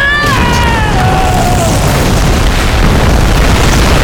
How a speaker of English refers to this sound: The force of my cry added to the explosion that shook the ground. Flame bellowed up and bits of the garden igniting and crumbling to ash.